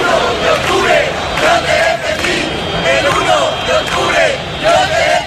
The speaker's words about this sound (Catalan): De fet, els càntics contra la policia són cada cop més habituals en aquestes concentracions de l'ultradreta. Ahir els deien gossos de Sánchez, sicaris de Marlaska, i els retreien que abans els consideraven un dels seus.